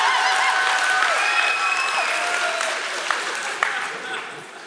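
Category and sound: crowd, audience hand clapping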